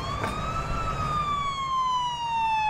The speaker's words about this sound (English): That's a Pridemark ambulance.